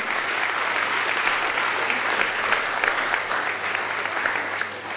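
An audience applauds steadily for about five seconds, a dense, even wash of clapping hands with no voices rising above it, holding a constant level before tapering slightly at the end.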